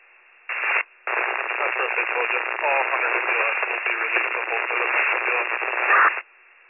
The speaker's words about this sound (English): You're coming in static